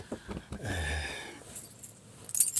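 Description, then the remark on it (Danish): Keys jingle briefly, a few light metallic rattles near the end, following a low murmur and faint shuffling movement. “Har du nøgler?”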